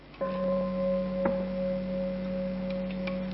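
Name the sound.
bell ringing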